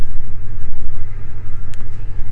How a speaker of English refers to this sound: And I think I may record a little bit more when I get home, but it's quite noisy here on the train there, so I'll sign off for now.